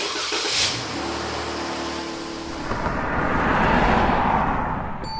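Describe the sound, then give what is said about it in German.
A car engine revs up and the vehicle drives up, its broad rumble swelling louder over a few seconds before settling, with no voices present. “Gut, dann fahre ich schon mal einen Wagen vor.”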